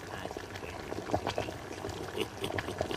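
Thick liquid of boiling herbs bubbles and pops steadily in a witch's cauldron, with irregular gurgling bursts and a low churning rumble underneath.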